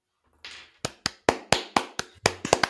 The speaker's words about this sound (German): Gut, da kann man ruhig mal Platz, da kann man ruhig mal kurz Platzen, applaudieren. genau, so ist es geplatzt. Ich habe geklatscht.